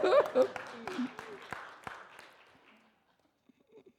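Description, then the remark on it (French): A brief smattering of audience applause for the director general, scattered sharp claps under some murmured voices at first, thinning out and fading to near silence within about three seconds. “On peut applaudir le directeur général.”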